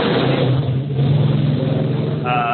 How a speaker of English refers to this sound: Sorry, there's some background noise there. I apologize for my windows open. Unfortunately, some loud motorcycle riders.